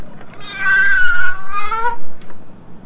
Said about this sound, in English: Listen to the cat. Meow. Listen to the cat some more.